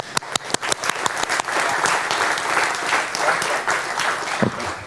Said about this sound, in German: Und also wie gesagt, großen Applaus nochmal an die Linux-Tage, dass sie existieren und da sind.